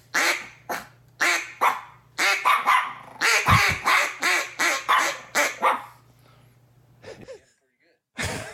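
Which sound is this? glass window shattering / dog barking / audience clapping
dog barking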